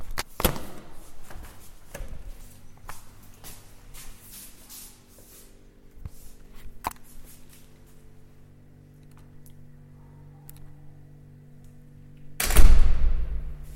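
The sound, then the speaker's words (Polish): A heavy fire door eases slowly shut in a stairwell: faint creaks and scattered clicks over a low, steady hum, ending in a single loud thud as it closes. No one speaks. “Tak się powoli zamykają drzwi strażackie.”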